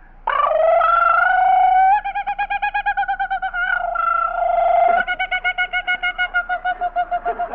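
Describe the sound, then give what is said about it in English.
A voice imitates a kookaburra's laughing call: a loud, harmonic, rising cackle that breaks into fast rhythmic pulsing hoots, lasting several seconds with no talking over it. “he sings out like a kookaburra. Let's hear. How's the kookaburra go?”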